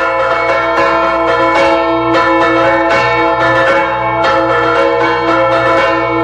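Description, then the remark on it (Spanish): Church bells ring loudly and continuously in a toll meant to ward off storm clouds, with repeated strikes layering into a dense, resonant toll that sustains throughout, full, with no voices present. “Y el tío, al mismo tiempo que lo iba memorizando con la boca, lo tocaba con las campanas.”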